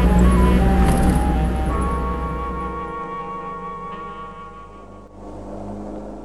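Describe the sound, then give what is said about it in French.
A small grey car rolls slowly along the quay of the port of Honfleur in Normandy, France, near the big wheel. Its low engine hum is steady at first, then eases off and grows quieter before settling into a softer drone. “Une petite voiture grise roule tranquillement sur le quai, près de la grande roue.”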